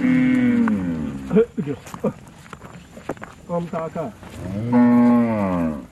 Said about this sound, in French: On est au milieu des vaches.